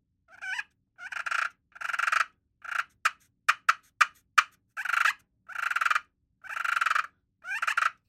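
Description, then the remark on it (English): A slate turkey call imitates a comfortable hen's soft purring: a series of short rolling purrs mixed with a few sharp clucks, played clear with no talking. “my purring on a slate call has killed me a lot of turkeys”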